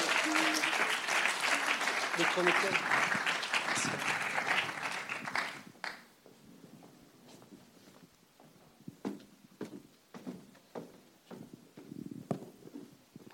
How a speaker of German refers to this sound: Danke sehr. Merci. Ein Applaus.